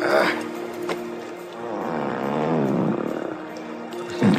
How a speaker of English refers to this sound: Anyway, here's a fart moment. Okay, so here you go.